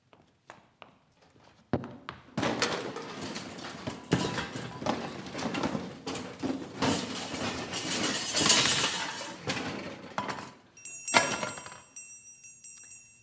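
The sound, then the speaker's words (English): A few sharp clicks, then the door of a broom closet creaks open onto a long stretch of busy clattering and rustling as someone pushes past brooms, a plumber's helper and toilet paper, before it settles into quieter knocks. “Okay, go on in, lady. The captain will see you now. That door right over there.”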